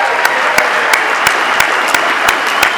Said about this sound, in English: I want to start by saying, you know, San Fernando Valley Convention Committee, thank you. Let's all give them a big round of applause.